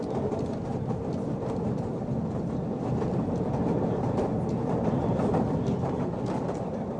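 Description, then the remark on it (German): A line 5 tram in Ammendorf rumbles steadily past, its wheels producing a continuous low roar with faint rhythmic clatter over the tracks, no voices present. “Mit der Linie 5 ist es gut zu erreichen, das Pfarrhaus in Ammendorf”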